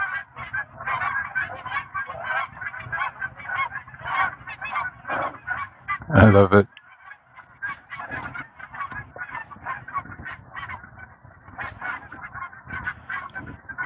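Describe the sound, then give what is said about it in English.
A large flock of geese flying in six or eight V formations honks continuously overhead, dense overlapping calls filling the air, with a brief loud burst and a person speaking briefly. “Where are you, geese? I hear you.”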